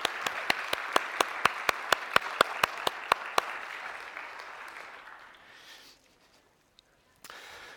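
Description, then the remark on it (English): An audience applauds to thank a woman who painted a painting for them that morning, with a steady run of sharp, evenly spaced claps standing out over the crowd's clapping, which fades away after about five seconds into near silence. “So can we give her a round of applause and thank her for her time?”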